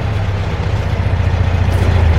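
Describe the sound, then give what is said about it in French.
A car engine rumbles steadily with a deep, continuous low drone that swells slightly louder toward the end as a car, not black, arrives at kilometre 28, Dorimont, and idles. No one speaks. “Ah, voilà une auto qui arrive.”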